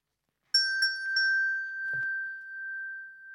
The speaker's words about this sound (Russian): Смотрит лягушка. Висит на дереве у теремка колокольчик. Позвонила лягушка в колокольчик. Тот и зазвенел.